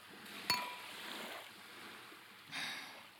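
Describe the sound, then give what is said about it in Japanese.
A single bright clink of glasses of a blue Malibu cocktail touching in a toast, with a short ringing tone, set against a soft, steady wash of background noise like waves. “さあどうぞ、せっかくですから乾杯いたしましょうか。はい、乾杯。”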